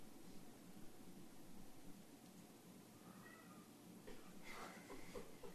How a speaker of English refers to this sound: There's a cat and something else. What's that noise?